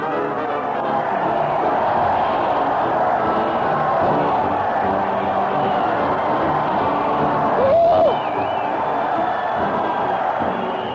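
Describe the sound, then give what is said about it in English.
A dense crowd cheers and roars steadily for about ten seconds as it follows a parade, led by Stupnagel and Bud, to the old town hall, a loud wash of many voices with a brief rising whoop or whistle near the end. “That crowd cheer. They're following the parade to the old town hall, having lots of fun.”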